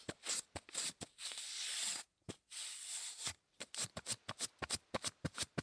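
Sticky crackling as packing tape is pressed onto and peeled off a sweater again and again, some slow drawn-out peels, then a quick run of short pats near the end.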